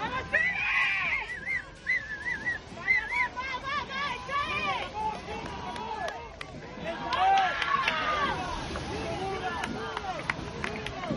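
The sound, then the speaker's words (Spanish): A crowd of spectators at the water's edge cheers and screams in a sustained, excited roar during the final minutes of a sea rowing world championship race, with many high, overlapping shouting voices rising and falling over a dense babble for the whole stretch. “Y van a escuchar ustedes los últimos minutos de la prueba con el aliento del público a pie de agua.”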